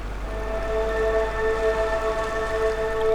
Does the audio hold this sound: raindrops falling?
yes